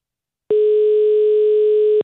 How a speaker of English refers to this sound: God, I never thought I'd hear that ringtone when I rang your phone.